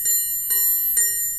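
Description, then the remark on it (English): A bright, metallic bell tone from a small synthesizer, in its typical unmodulated form, strikes four times at an even pace. Each hit rings with shimmering inharmonic overtones that sustain between strikes, loud, with no voices. “Wacky bell.”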